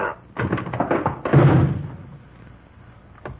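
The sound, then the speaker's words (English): A door being opened: a quick run of rattling knocks and clicks, then a heavier thud as it gives way, followed by near silence and one faint late click. “Well, if you get the door, I'll toss the shell.”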